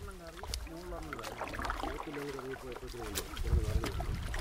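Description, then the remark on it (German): Paddling a bamboo raft on the dammed Peria River: soft, irregular splashes and water sloshing from paddle strokes, heard beneath steady speech that continues throughout. “Auf einem Bambusfloß paddeln wir über den aufgestauten Peria-Fluss.”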